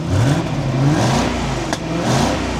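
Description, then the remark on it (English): The engine of a halo performance car revs, its throaty exhaust note rising and falling through a couple of throttle blips, steady and moderately loud with no voices. “the other funny thing about this car is that for this being a halo car, an insane performance vehicle, they really didn't make it very loud.”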